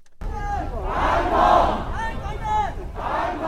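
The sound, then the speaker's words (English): A large crowd of anti-government protesters marching in Hong Kong chants the slogan "Hong Kong resist" in unison, loud and shouted, with the rhythmic phrase repeating in quick bursts over a constant murmur of voices. “Protesters chanted, "Hong Kong resist," while others smashed Chinese state banks and a local government office.”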